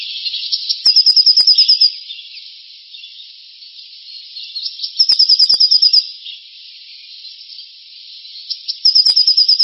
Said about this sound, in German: Das ist normalerweise die Kohlmeise als erster Vogel, so immer um Silvester rum. Dann kommt die Blaumeise.